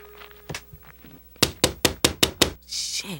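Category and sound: impact, knocking on a door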